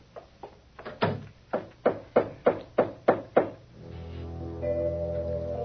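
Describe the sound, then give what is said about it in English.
About ten firm knocks on a door in a steady, insistent rhythm, starting with two softer raps, then the knocking stops and a sustained low tonal hum follows. “Who would that be? There's a dressing room behind the door.”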